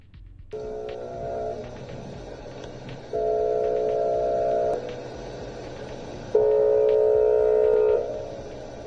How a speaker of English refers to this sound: It doesn't sound like a sky sound or anything. It just sounds like literally like an alarm going off. But it's not like the kind of sound you want to wake up to at 7 in the morning.